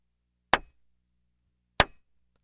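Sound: two hand claps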